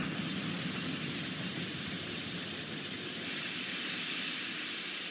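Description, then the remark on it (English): A steam train's loud, steady hiss of escaping steam fills the whole stretch, a dense continuous rush without breaks. No distinct squeal stands out, and no one speaks. “With a squeal of fear from his chimney, The little train bolted backwards.”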